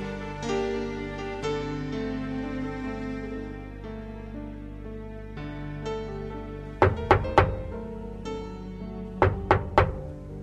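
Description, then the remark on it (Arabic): Two bursts of three sharp, loud knocks on a door, spaced a couple of seconds apart, ring out over soft, steady background music. “خليني افتح الباب.”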